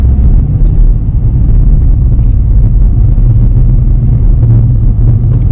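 Steady low-frequency road rumble fills the cabin of a moving car, a constant loud drone with faint higher hiss and small bumps, no voices heard.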